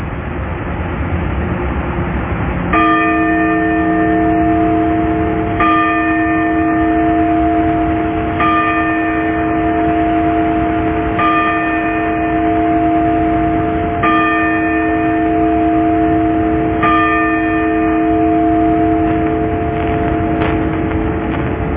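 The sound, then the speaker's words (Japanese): The Sapporo Clock Tower bell in Sapporo, Japan, strikes six times at 6 a.m., evenly spaced about three seconds apart. Each loud, resonant stroke lets its deep hum linger into the next, with no voices. “札幌時計台の鐘が午前6時をお知らせします。”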